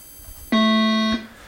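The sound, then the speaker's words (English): A single loud, sustained electronic buzzer tone lasting just over half a second, harsh and harmonically rich, a contestant buzzer in a school quiz competition between teams from Lockport, Wilson and Royhart, with no talking around it. “All right, and clearing the buzzers.”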